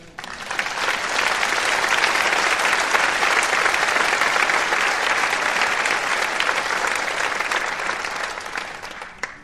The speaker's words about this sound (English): How about we give God an applause?